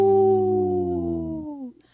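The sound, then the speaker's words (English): A person on a radio show imitates a deep wolf howl, a single sustained low tone that slides gently downward over about two seconds before breaking off, loud and alone with no talking. “I tried a deep howl that time.”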